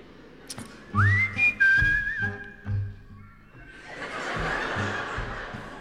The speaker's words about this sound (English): Ach ja, beim Zwischenspiel. Also, I wanted everybody to whistle.